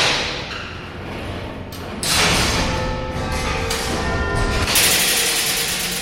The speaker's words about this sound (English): We're now coming up to the quarter past the hour chimes, with the wheels and the ironwork going round that go up to what we call the link room, and then they go up to the quarter bells upstairs. They will start moving.